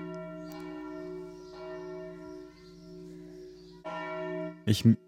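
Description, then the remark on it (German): Church bells ring in Tempelhof, Berlin, steadily with a sustained, resonant hum, a fresh strike swelling at times; a loud, brief bump near the end. “Hier läuten erstmal die Glocken. Die Glocken läuten.”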